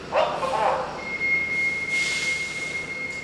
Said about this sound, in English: The 85 bus pulls up in front of the senior center in Lawrence, Massachusetts.